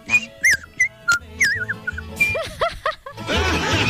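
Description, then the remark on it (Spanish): A person whistles a series of short, chirpy, warbling notes that rise and fall in pitch, imitating birdsong, ending with a burst of noisy, breathy sound. “y el otro amigo hablando pájaro.”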